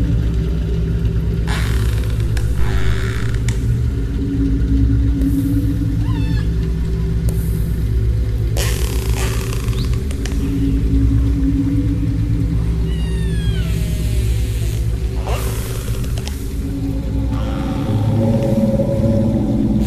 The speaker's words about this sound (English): incorporated open source recordings of whale calls over virtual instruments from a Spitfire audio collection, which transformed whale songs into granular synthesis.